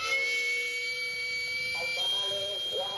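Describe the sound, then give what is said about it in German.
A steady, shrill whistle from the steam vent of a small, rumbling street-food handcart cooking food over charcoal in Mexico City holds one high pitch throughout, with faint rumbling and murmured street noise underneath. “Der Dampfauslass eines kleinen, rumpelnden Bollerwagens, in dem das Streetfood über Holzkohle gart.”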